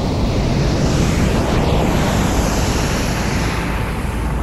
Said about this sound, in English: I'm standing on a beach, one where I spent most of my childhood summers. And the horizon, it starts to get smaller. The shore flows back and forth, higher and deeper, until suddenly a massive wave is in front of me.